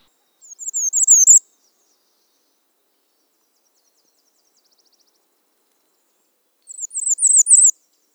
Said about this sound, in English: Bay-breasted warblers sing mostly on one pitch, sometimes with a rise towards the end of the song. Syllables are doubled or indistinct.